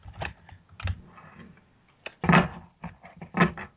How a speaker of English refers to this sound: I'm going to shuffle her cards. And what I want you to do in the chat room is I want you to tell me when to stop shuffling the cards. If you can hear them, you can actually hear the cards as we're shuffling.